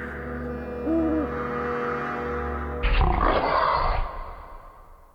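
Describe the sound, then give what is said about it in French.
A wolf growls low and steadily, then breaks into a louder, rough snarl for about a second before the sound fades away. A faint hoot-like call sounds briefly near the start. “Bon bah, il était une fois un loup, grand et méchant.”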